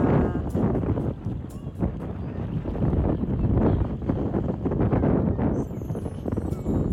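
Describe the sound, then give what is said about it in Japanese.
Steady seaside ambience on a very hot day just after the rainy season ended: a constant, fairly loud rush of wind buffeting the microphone over a broad wash of water, with small irregular bumps and no clear speech. “梅雨明けをしてすごく暑くなってますので、家族で海に来ました。”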